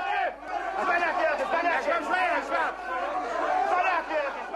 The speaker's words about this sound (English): Wednesday, enraged government workers who haven't been paid in more than 3 months stormed parliament during a regular session. The angry crowd hurled insults, bottles, and threw punches at Hamas lawmakers.